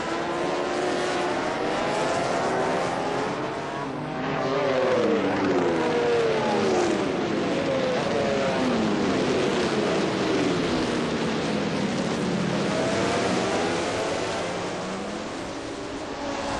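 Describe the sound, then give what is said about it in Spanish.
Several racing motorcycle engines roar continuously and loudly during a Grand Prix at the end of the straight of the Motegi circuit, their overlapping whines rising and falling in pitch as riders shift gears and pass by. No one speaks. “Sin duda espectacular la melee de motos y pilotos que se organiza en el final de recta del circuito de Motegi.”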